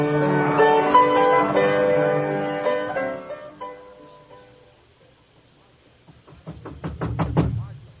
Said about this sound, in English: Who is it? The Marshal. Who do you think you are banging on people's doors this time of night?